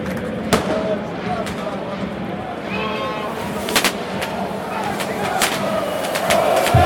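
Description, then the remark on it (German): Sharp bangs of pyrotechnics crack out in the stands during a football derby, over a dense, roaring stadium crowd, several loud reports scattered irregularly amid constant crowd noise. “Tatsächlich wird es das ganze Spiel über knallen, leuchten und vor allem rauchen, was sich unter anderem so anhört.”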